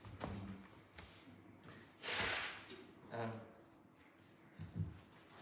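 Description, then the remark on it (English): A single forceful nose blow, a harsh breathy rush of air lasting under a second, with quieter sniffs and faint voice sounds before and after. “Sorry, I'm just going to need to blow my nose.”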